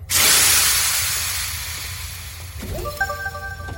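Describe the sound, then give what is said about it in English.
A door unlocks via a cycle button with a loud, sudden hiss of released air that slowly fades over a few seconds, followed by a short run of bright, rising electronic tones. “Eventually, I will put my paw over the cycle button to unlock the door.”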